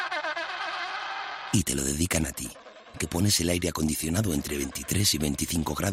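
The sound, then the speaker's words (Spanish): A short burst of harsh, braying, bleat-like animal calls, the mating calls of two penguins, with stacked harmonic tones lasting about a second and a half, followed by a man talking steadily. “Este es el sonido de dos pingüinos apareándose.”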